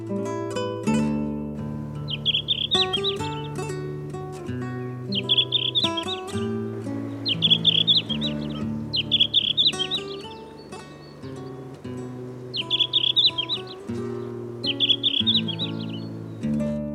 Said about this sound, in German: Das war der Blauschwanz.